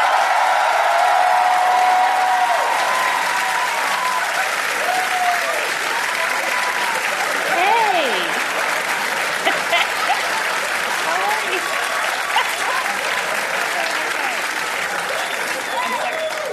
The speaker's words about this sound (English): Thank you guys. Thanks. I've pimped you into an unnecessary applause.